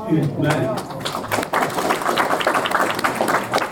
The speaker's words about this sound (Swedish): Och det var ett helt enigt möte som efter applåder antog uttalandet.